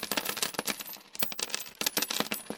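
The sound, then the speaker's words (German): Coins clatter and jingle in a rapid, continuous cascade, with many small metallic clinks striking and rolling, briefly thinning before picking up again. “Es rollt in die Kassen, in die Hosentaschen. Es rollt und rollt.”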